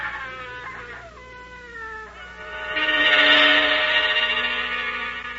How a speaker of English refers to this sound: A woman was buried under the junk and dirt and glass, and she was screaming all wild and horrible for someone to dig her out.